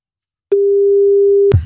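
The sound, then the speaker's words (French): An outgoing phone call's ringing tone, calling a person selling piglets on Le Bon Coin: one steady, mid-pitched electronic tone lasting about a second, ending abruptly with a click and a brief low rumble. “Bon, eh bien, du coup, appelons directement.”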